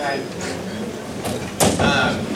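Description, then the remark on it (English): A door is pulled shut with a sliding scrape and a solid thud near the end, over a background of indistinct chatter. “Close the door, maybe. Close the door.”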